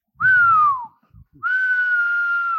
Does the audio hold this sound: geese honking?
no